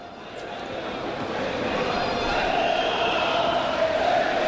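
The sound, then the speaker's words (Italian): Givova Scafati basketball fans chant "Serie A" together in the curva during a game against Acqua San Bernardo Cantù, a dense wash of massed voices rising slightly in volume, with a faint higher sustained tone from the crowd becoming more prominent toward the end. “E cantano Serie A in curva i tifosi della Givova.”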